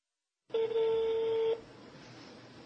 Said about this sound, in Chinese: 他拨通了国内关押他妻子王小燕女士的劳教所的电话